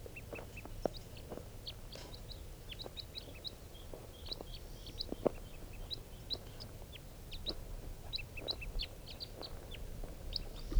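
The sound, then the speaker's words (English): A flock of birds hanging around a mist net after a male was caught in it keeps up a steady stream of short, high chirps and calls, many overlapping, over a low rumbling background with occasional soft knocks. “One of them and just got the male in the net, and he'll be bird number 436, and the rest of the flock is hanging around here.”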